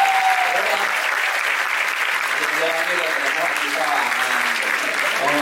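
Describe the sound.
Steady, dense applause from a group fills the whole stretch, loud and close, with faint voices and a few cheers mixed underneath the clapping.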